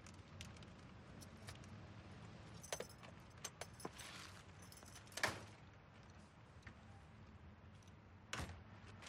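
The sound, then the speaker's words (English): Keys jingle and clatter in a lock over a steady low rumble, with a few sharp metallic clicks and a louder clack as a man opens a screen door and lets himself into a suburban apartment. “He opens a screen door, then lets himself in.”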